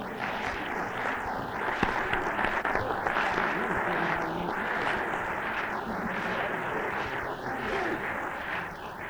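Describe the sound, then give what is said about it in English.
A crowd claps steadily for about nine seconds, a dense, even wash of applause with no voices, carrying a slightly swirling, whooshing coloration throughout. “Well, you ought to say amen or clap or do something, don't you think?”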